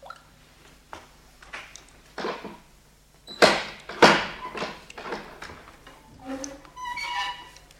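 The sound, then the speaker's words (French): Water seeping through the mouldy stones of a vault drips into a puddle in a string of short, separate plinks at uneven intervals, a couple of louder splashes in the middle, with faint echoing tones trailing toward the end. “filtrant à travers les pierres moisies de la voûte détachait à intervalles réguliers une goutte d'eau qui tombait dans une mare à ses pieds.”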